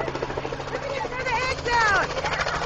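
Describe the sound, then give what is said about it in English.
A helicopter flies overhead at an Easter egg hunt where plastic eggs are dropped from helicopters. Its rotor chop forms a constant low rumble while excited voices call out over the noise. “As people celebrate Easter this weekend, there are going to be a lot of Easter egg hunts, and some of them will involve thousands of plastic eggs being dropped from helicopters.”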